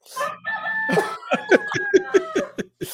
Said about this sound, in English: Give him the cackadoodle do. Yes. That's over here. Here's my rooster. That's my rooster.